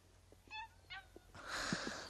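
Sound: puppies barking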